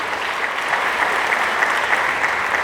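A church audience applauds steadily in honour of Christ Jesus, a dense wash of many hands clapping at an even loudness for the whole stretch, with no talk over it.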